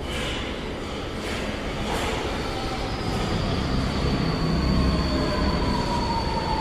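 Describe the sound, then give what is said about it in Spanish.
A subway train rolls into a platform near closing time, at 11:30 on a Sunday night, with a steady, loud rumble, while high-pitched wheel squeals rise and sustain as it slows; no one speaks. “Se comenzó a acercar a la orilla cuando vio que venía el tren.”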